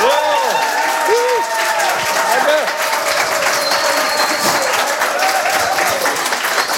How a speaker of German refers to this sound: Und ich freue mich, dass Sie wieder da sind und bitte Sie um einen donnernden, frenetischen Applaus.